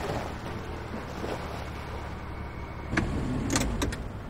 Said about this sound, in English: Snow falls at the lodge at night. Megan and Frank pull up in the car.